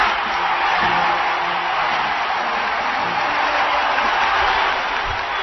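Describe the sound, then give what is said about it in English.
A large audience cheers and applauds loudly at a speech line about achieving gay rights, a dense, steady roar of clapping and shouting that holds at full strength for several seconds, with no one speaking over it. “Don't make a joke about why they're cheering for that louder.”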